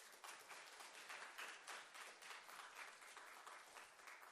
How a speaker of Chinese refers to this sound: 我们不到25岁的，不到20岁，哇，这是教会将来的盼望。我们给这人鼓掌好不好？